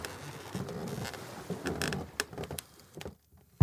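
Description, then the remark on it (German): Uneven, irregular footsteps thud and creak on the wooden deck of the ship Adventure Galley, with scattered knocks and scuffs over a low rumble, ending in a sudden loud bump. “Die unregelmäßigen Schritte an Deck werden von einem schabenden Geräusch unterbrochen.”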